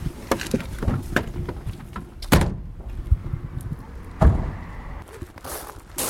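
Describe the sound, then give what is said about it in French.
A van's sliding door rolls along its track and shuts with a couple of solid thuds, amid shuffling and small clunks of people climbing in to drive to a customer's moped repair. “Eh ben allons-y, montez dans le camion, on y va, on est parti.”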